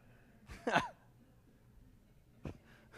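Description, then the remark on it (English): Coughing from the back of an audience during a sermon: one loud, harsh cough burst followed a couple of seconds later by a shorter second cough, with quiet background noise in between and no talking. “Lots of coughing going on back there.”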